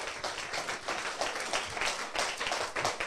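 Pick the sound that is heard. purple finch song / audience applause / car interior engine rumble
audience applause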